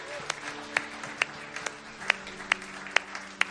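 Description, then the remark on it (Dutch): Sharp, evenly spaced claps at a church service, applause for Jesus, keep a steady beat, about two per second, over a low hum of sustained tones and murmuring voices. “Ja, geef hem een big applaus.”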